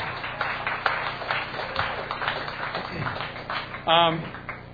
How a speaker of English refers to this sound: So God bless you. Let's all have a round of applause for the vegetarians.